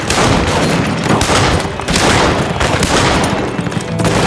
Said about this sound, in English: Wounded in the arm and thigh in the initial volley of gunfire and his horse shot out from under him, he was kneeling in the dusty street, firing his Colt at anything that moved.